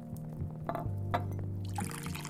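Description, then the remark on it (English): Coffee from a freshly made pot pours steadily into a cup for a couple of seconds, a continuous splashing stream with a faint clink of glass or ceramic near the end. “Well, you're in luck. I just made a fresh pot.”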